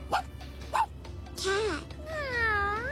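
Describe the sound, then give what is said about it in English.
A person imitates a tiny dog barking: two quick, high-pitched yips, then longer whiny, wavering yelps that rise and fall, fairly loud. “What about the tiny dog?”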